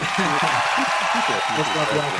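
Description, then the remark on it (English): Steady, dense applause welcoming guest Reggie Cannon, right back of the U.S. men's national team and FC Dallas, a crowd clapping continuously at fairly loud level, with voices talking or calling out over it throughout. “Let's give a big round of applause for the right back of U.S. men's national team, FC Dallas, and the future president.”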